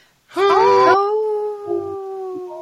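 wolf howling

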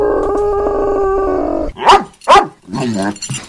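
dog howling and growling

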